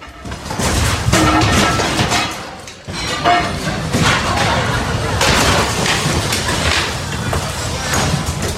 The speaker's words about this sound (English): but here is the sound. Literally, this is furniture just rolling around while people are waiting to go into port.